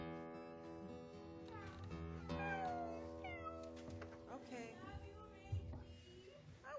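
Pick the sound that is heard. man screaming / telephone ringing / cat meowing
cat meowing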